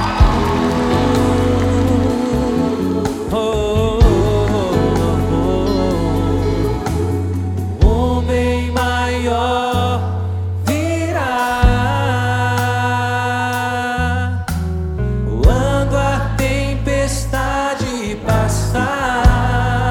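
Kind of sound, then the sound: crowd, audience applauding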